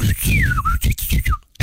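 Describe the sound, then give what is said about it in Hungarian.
A probe droid's signal sound effect from The Empire Strikes Back, the probe sent down to the ice planet Hoth: a thin, whistle-like electronic tone glides and warbles over a series of rhythmic low, crackling pulses, ending after a brief dropout. “Hozd egy kicsit a hot rendszeres szondát.”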